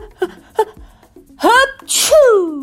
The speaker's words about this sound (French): Parfois, l'oiseau lisse ses plumes juste au-dessus de la tête de la girafe. Et elle éternue.